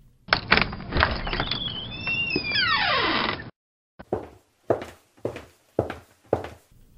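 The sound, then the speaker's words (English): A door creaks slowly open with a long, groaning squeal, then five or six steady footsteps follow at an even walking pace, clear, with no voices. “She came to a house and knocked on the door. When no one answered, she walked right in.”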